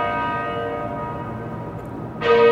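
A small servant's bell rings with a lingering metallic tone that fades slowly, then is struck again more loudly near the end, the fresh ring bright.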